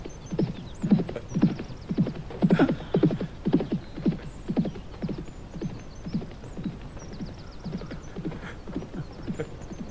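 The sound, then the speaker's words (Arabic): A horse's hooves clip-clop in a steady rhythm for the whole stretch, with brief whinnies and snorts breaking in partway through as a rider urges the horse on. No one speaks. “تحرك هيا ديو. ما بك أيها الحصان؟ ديو ديو.”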